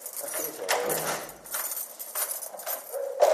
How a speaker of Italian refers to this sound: Tric trac di chiavi, passi che risuonano nei corridoi.